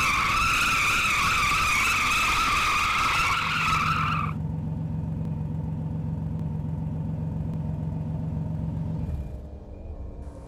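A car with a father driving and two girls aboard brakes hard just short of going over a ravine. Its tires let out a loud, high, wavering screech for about four seconds, followed by a steady low engine rumble that drops off near the end.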